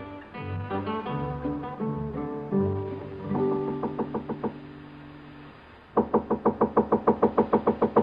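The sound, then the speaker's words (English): Several rapid, evenly spaced knocks on a hotel room door at the Carlton Hotel, San Francisco, 1875, sound near the end, loud, following a stretch of orchestral music with sustained tones. “Come in, Hey Boy. The door's unlocked.”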